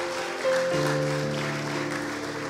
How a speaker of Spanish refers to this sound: Cada día, aplauda con todo el corazón.